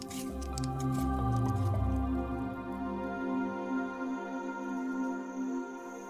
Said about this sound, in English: Now, dump that water in the pot.